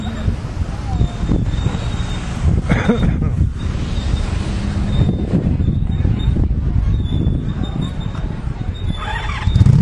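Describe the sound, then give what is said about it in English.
Playground swings, at an outdoor spot with a corn maze, hay ride and pumpkins, squeak over and over in thin, high-pitched creaks, recurring at an uneven rhythm over a steady rumble of wind and background voices. “Swings squeaking.”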